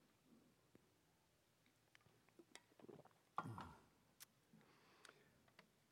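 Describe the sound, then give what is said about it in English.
Someone takes a quick sip of a drink, with soft clicks of handling around it and a brief swallowing sound midway, quiet, with no talking. “So let me grab a drink, and you all get your pens ready, and follow along.”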